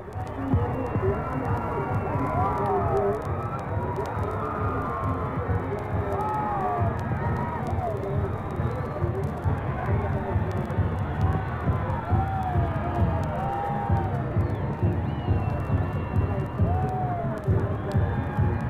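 A large crowd, getting wet, cheers and applauds the President of the United States as his automobile comes into sight: a steady, loud ovation, a dense roar of many voices with occasional higher shouts rising above it, sustained throughout without pause.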